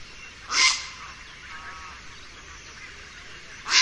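Two harsh, raspy grey heron croaks, one short loud call early on and another cut off at the very end, over faint steady background noise with no voices.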